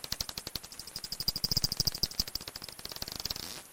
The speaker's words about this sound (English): That's the species called Dorbenton's bat.